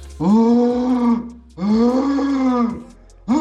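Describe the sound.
A person, responding to a Deutschlandfunk Nova segment on deer roaring, imitates a red deer stag's rutting roar with two long, loud, throaty bellows, each over a second, separated by a brief pause, with the start of a third at the end.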